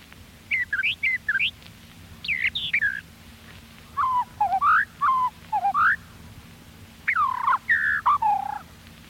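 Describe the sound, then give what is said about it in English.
A brown thrasher sings in the woods, a lively string of varied, whistled phrases, often given in quick pairs with short pauses between bursts, clear over a faint low background hum. “Brown thrasher.”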